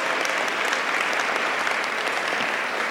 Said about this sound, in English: Would you give our team members a round of applause? Thank you all so very much.